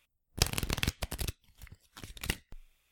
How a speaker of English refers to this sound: Are you ready to play Beat the Dealer? I'm all in, dude. I want to split my pen. All right. Let me shuffle the cards real quick.